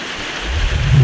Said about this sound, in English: I think it's raining. What? I think it's raining. What'd you say? Hold on, I'll let the rain die down. Then you might be able to hear me.